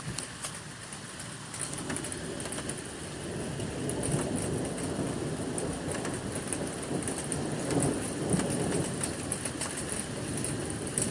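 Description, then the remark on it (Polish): Steady, dense rain hisses throughout a big thunderstorm in Świnoujście on 10 May 2018, with a low rumbling undertone of thunder that swells slightly midway, continuous with no voices. “W Świnoujściu jest teraz wielka burza. Zresztą sami posłuchajcie.”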